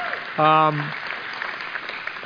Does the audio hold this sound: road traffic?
no